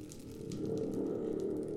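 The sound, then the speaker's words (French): A thunder box, or spring drum, is played during a sound-storytelling workshop in a media library, rumbling in a steady, warbling low roar for about two seconds, loud and sustained with a faint metallic shimmer on top and no voices. “Ça, c'est une boîte à tonnerre.”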